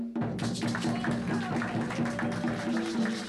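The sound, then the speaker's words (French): A crowd applauds Choukaj, a cultural movement based in Aubervilliers: a steady, dense wash of many hands clapping at once that stays fairly loud and even throughout, with a faint low hum running underneath. “Je vous demande d'applaudir vraiment Choukaj.”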